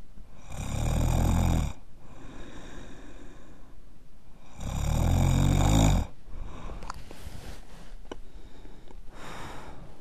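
A man snores loudly in his sleep, two long rasping snores about four seconds apart, each followed by quieter breathing and faint rustling.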